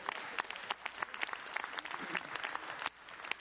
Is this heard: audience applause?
yes